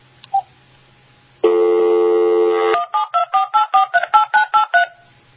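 A steady dial tone hums for about a second, then gives way to a rapid run of about eleven loud touch-tone dialing beeps as a phone call to Pennsylvania is dialed, with no talking.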